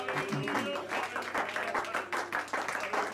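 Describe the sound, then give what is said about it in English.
An audience at a morning church service claps hands in praise to God, a dense, steady wash of many hands applauding together, with some indistinct voices mixed underneath. “Let's give him a hand clap of praise this morning.”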